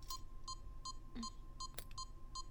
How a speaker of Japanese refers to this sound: 装着しながら説明しますけど、明日からは午前7時になっても低層帯の鍵は自動で開かないようになっています。低層帯は私が外しますので、ビープ音が流れていてもそのまま待機していてください。